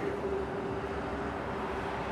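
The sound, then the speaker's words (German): A steady, continuous roar of motorway traffic heard from a motorway bridge, a broad rumbling wash with a faint sustained hum running through it and no voices. “Auf der Autobahnbrücke bleiben wir stehen und hören dem Krach vom Verkehr zu.”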